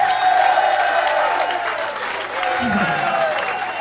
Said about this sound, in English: Big round of applause for Mika.